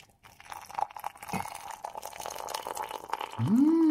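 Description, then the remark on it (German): Boiling water is poured over a teabag into a cup for Advent tea, a steady splashing trickle whose pitch climbs as the cup fills, with no one speaking. “Einen Teebeutel in die Tasse. Das Wasser aufgießen.”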